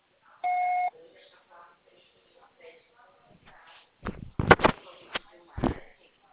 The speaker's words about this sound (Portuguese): Grave seu recado. Você só será tarifado após o sinal.